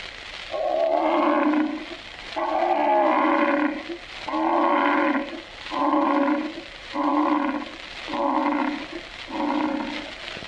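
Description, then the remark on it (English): A lion roars in a series of about seven deep, grunting bursts that start long and grow shorter and quicker, loud, with no other sounds around it. “But they all stopped and became hushed when the king of beasts, the mighty lion, roared like this.”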